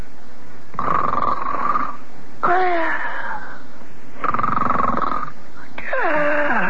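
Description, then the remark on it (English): Voices fake exaggerated snoring: four loud snores in steady alternation, raspy rumbling breaths trading with whistling, whiny exhales. No one speaks. “While I explain, you and Sparky keep on snoring, do you understand?”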